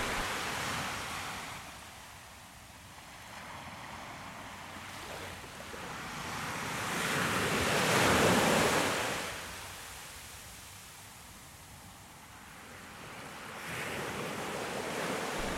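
Ocean waves surge and recede in slow swells, with a broad wash of surf peaking midway and rising again near the end, heard alone without voices.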